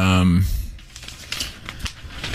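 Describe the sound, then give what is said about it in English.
Irregular rustling and crinkling of paper being shuffled and moved around, with a brief burst of voice at the very start before the papery crackles take over. “Just moving some paper so it looks like I'm thinking.”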